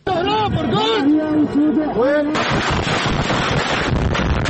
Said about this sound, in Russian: Мощные взрывы раздаются в сирийском Алеппо, на шоссе рядом с университетской больницей. А это район города Идлиб на севере страны. Как пишет Рейтерс, сирийская и российская армии нанесли серию авиаударов по городам, занятым повстанцами.